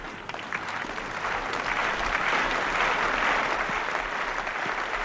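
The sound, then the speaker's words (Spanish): A tennis crowd applauds steadily during a match, encouraging Yannick Hammann, a dense wash of clapping that swells in the middle and stays loud before easing slightly toward the end, with no voices over it. “Me gusta oír los aplausos de la gente.”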